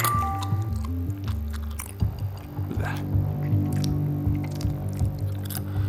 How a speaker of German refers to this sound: An easy way to contour your jawline. Get jacked in the face. Just put the jaws our size between your front teeth and bite on it. Chew 10 minutes every day.